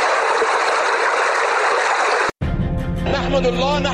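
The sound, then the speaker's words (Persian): A steady, loud rush of flowing river water fills the first two seconds, then cuts off abruptly and a voice begins speaking over a tonal background. “آگاهان به این باور هستند که این ولایت با داشتن دو دریای بزرگ مانند دریای آمو و دریای کوکچه و ده ها دریاچه و چشمه ها 52% آب کل افغانستان را تشکیل میدهد.”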